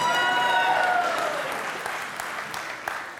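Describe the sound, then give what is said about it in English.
An audience in a church claps for the winning side of a game in a dense, sustained burst of applause that fades slightly toward the end, with a few whistles and cheers rising above it at the start. “Big round of applause.”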